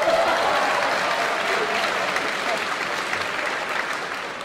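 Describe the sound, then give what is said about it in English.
An audience of about 1,200 people at a debate event claps steadily, a dense wash of many hands at a fairly loud, even level that tapers slightly toward the end, with no voices standing out. “We truly, you can clap.”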